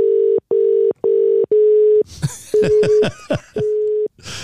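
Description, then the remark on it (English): A steady, buzzing ringing tone of an outgoing phone call pulses in short repeated bursts, then carries on beneath a patch of crackly, clicking line noise. The tone is loud, with no one speaking. “Let's try and ring him.”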